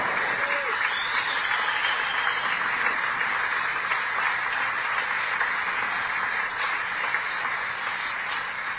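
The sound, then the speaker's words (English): A crowd applauds steadily for several seconds, a dense, even wash of many hands clapping at once with no voices standing out. “I think that's something to give him a round of applause for.”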